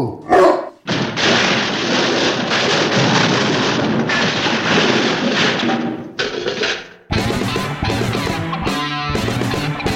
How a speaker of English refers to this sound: I don't want a certain someone to hear his name and come running down here while we're recording. Oh, you mean Shadow, the dog.